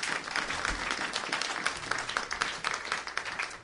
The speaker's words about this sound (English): Or give the Lord a clap offering?